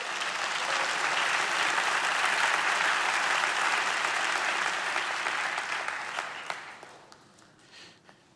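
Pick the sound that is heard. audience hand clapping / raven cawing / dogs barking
audience hand clapping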